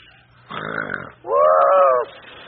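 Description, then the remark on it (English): A voice imitates the loud snoring of a little engine in a story: two drawn-out snores in a row, the first a rough, raspy rattle and the second a steadier, humming drone, each lasting under a second. “Gone as he snored so loud, no one could get to sleep.”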